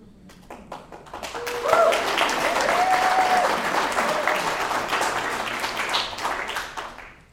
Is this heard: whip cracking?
no